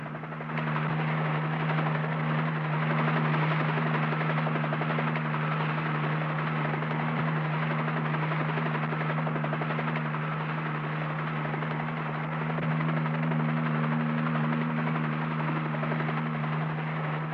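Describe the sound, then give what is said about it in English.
A helicopter, Helicopter One, over Rimrock during a fire, its rotor droning steadily and loudly, with a low engine hum and rapid blade chop holding constant for the whole stretch, as if hovering. No voices are heard. “Helicopter one's over there now.”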